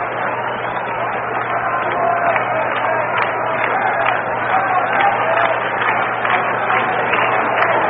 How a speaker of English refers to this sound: Now the crowd of nearly 20,000 at Candlestick Park, starting that rhythmic clapping.